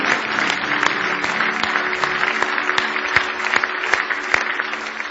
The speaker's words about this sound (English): Give him one more hand clap of praise if you love him tonight.